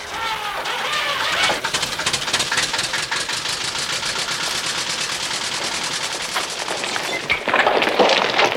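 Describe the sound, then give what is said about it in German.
A tractor engine runs on a deserted stretch of beach as a farmer, having pulled a tarp off its trailer, climbs back onto it: a loud, rapid rattling chug that holds steady throughout, with faint bird chirps in the background and no voices. “Ja, er nimmt die Plane ab und klettert wieder auf seinen Trecker.”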